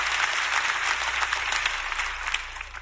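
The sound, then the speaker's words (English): An audience at a church service claps their hands in a dense, steady wash of applause that stays loud for about three seconds, the claps blurring together with no talking heard over them. “Clap your hands if you're ready for what the Lord is going to speak to you today.”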